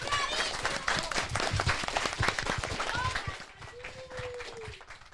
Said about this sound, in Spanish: Muy bien, fuertes aplausos.